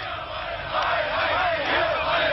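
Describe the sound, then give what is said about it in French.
A protest crowd shouts together in a dense, continuous roar as it chases out plain-clothes secret police (Stasi) officers, many voices blending into a loud, sustained clamor that swells slightly partway through with no break or pause. “La foule chasse alors les policiers habillés en civil et qui sont normalement dans les manifestations chargés d'isoler les meneurs et de les arrêter.”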